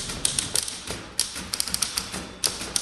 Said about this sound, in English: A lot of people are upset with us because of the amount of abuse we put the typewriters through. I mean, we wail on them pretty hard